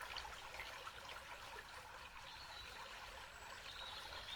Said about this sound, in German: Und es kann sein, dass dieses Plätschern nun noch intensiver für dich wird.